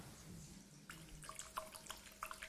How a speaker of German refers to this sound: Hört ihr? Hier ist wirklich Wasser.